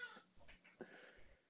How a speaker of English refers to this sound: Sorry, that's Hamilton, the cat.